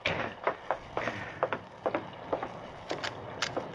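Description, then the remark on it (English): A dozen or so heavy thuds pound on the wooden door of a stable at midnight in uneven bursts, fairly loud, with short pauses between clusters of blows and no voices. “Someone was pounding on the door of the stable.”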